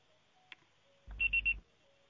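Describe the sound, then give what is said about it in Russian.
A voicemail tone: three short, high-pitched electronic beeps in quick even succession, fairly loud over a burst of low rumbling line noise, with no one speaking. “Пожалуйста, попробуйте перезвонить позднее или оставьте сообщение после звукового сигнала.”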